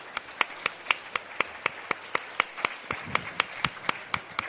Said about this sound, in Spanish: Nada, lo he dicho, muchas gracias y si queréis un aplausito para cerrar.